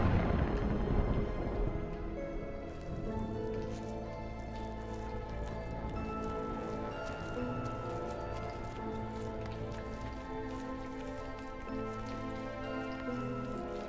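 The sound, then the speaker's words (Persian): Steady rain falls with scattered drops pattering, a continuous wet hiss over a low, sustained musical drone. No one speaks. “با وجود فساد و بارون، اینجا نفرین شده است.”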